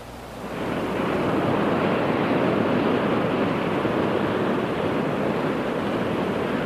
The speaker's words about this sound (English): This is the Pacific Ocean. The California Indians used to say that at full moon, the fish came and danced on these beaches.